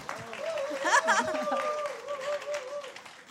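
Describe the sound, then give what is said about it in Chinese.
An audience breaks into steady applause to encourage a translator who is translating for the first time, a dense wash of clapping that carries on throughout, with voices calling out and a sustained tone sounding over the crowd. “都要给掌声鼓励他。”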